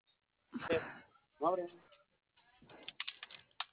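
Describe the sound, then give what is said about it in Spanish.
Two short bursts of voice, then a quick run of light clicking taps as the keypad buttons of a safe are pressed in an uneven sequence, fairly quiet. “Vale, mire, el teclado de la caja se encuentra abajo de la caja.”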